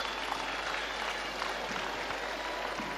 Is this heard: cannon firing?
no